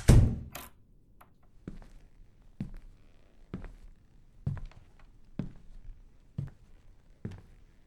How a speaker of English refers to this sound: Dude, I just hit your head with this metal bowl.